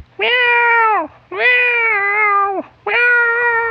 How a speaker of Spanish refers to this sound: maullando con desesperación, pues ya quería... beber su leche.